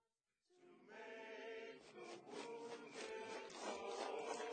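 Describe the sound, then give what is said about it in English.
Feet shuffle and scrape steadily across a floor, a continuous rubbing with uneven rhythmic pulses, starting after a brief silence and carrying on without any talking. “You shuffling to cover your footsteps?”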